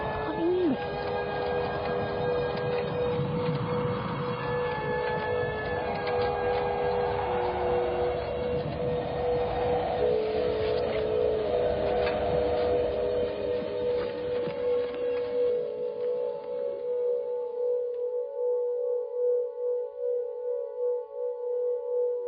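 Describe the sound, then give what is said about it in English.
Steady electronic sine tones, generated by a piece of sonic art, hold several sustained pitches over a dense, rumbling noisy wash. The wash fades away, leaving a few pure humming tones ringing on their own. “It's a piece of sonic art. Very clever it is. It generates sign tones all of itself.”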